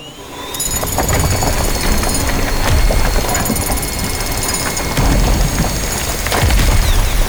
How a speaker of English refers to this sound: This time, the wall won't resist. Scout, activate maximum strength level. Maximum strength level activated. Now, drill the wall.